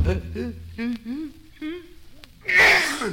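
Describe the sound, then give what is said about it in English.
A string of halting, rising vocal 'ah' breaths builds up and ends in a single loud, explosive sneeze, with no one talking over it. “I got mine just the other day, and now my sneezing's all gone.”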